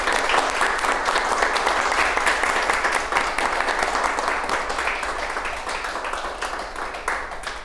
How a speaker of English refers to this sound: We just want to clap it up for you. Thank you for joining us here on the Asheville View. We totally appreciate you for coming. Thank you. Let's just give him a hand and just thank him for being here.